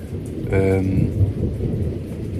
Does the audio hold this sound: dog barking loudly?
no